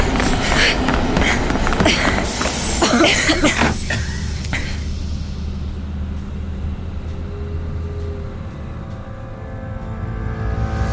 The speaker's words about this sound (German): Fuck, Leute, der Zug steht schon. Komm, los, rennt! Los!